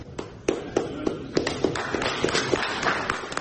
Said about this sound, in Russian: Хлопки, которые вы услышали в конце этого выступления, это аплодисменты российской делегации самой себе.